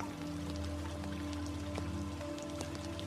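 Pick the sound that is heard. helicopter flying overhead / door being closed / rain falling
rain falling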